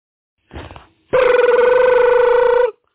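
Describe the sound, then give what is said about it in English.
A telephone rings: a brief muffled burst, then a loud, steady electronic ring lasting about a second and a half, a rapidly warbling mid-pitched tone with bright overtones, cutting off abruptly. “Hey, man, you can get your phone.”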